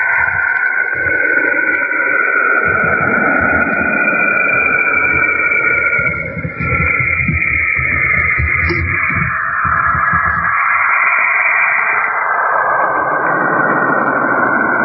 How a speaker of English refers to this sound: he used the theme from Forbidden Planet. Well, you know what that was? Tell me. The eerie sounds of Saturn.